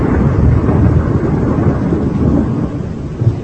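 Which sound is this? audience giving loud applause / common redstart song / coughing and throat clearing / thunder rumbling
thunder rumbling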